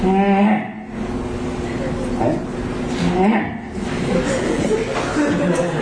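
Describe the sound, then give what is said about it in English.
A voice imitates cars whizzing past someone standing by the side of the road, illustrating a wave phenomenon: a buzzing, hummed tone that swoops up in pitch and then falls away, repeated a few times over several seconds at a steady, moderate loudness. “If you're standing by the side of the road and you're listening as cars go by, what you hear is something like,”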